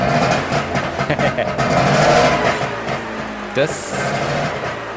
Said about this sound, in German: das ist das Knattergeräusch eines Zweitaktmotors und zwar von einem Trabant